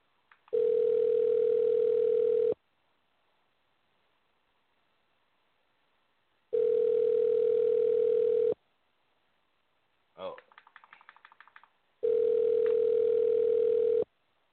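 A steady, buzzy phone ringback tone sounds in long two-second bursts separated by silences, with a brief clatter of handset noise between the second and third rings, as a phone call goes unanswered.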